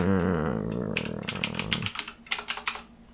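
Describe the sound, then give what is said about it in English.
A rapid run of crisp computer keyboard clicks, irregular like someone typing, starts about a second in over a fading harmonic hum, then continues as sparser, distinct keystrokes. “Plus, you get to hear the clicking of my keyboard.”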